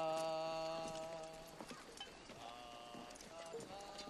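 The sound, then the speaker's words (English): Horse hooves clip-clop at a slow, uneven pace, with sharp knocks spread across a few seconds over a steady tonal hum and faint voices in the background. “But would the colonel please do us all a favor and get back on the damn horse?”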